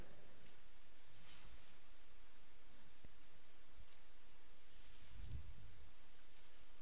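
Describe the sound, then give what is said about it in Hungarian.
Soft paper rustling as pages of a Bible are turned to the first book of Moses, with a few brief brushing bursts over a steady faint hiss. Quiet throughout, with no one speaking. “Lapozok már egyes igéjétől”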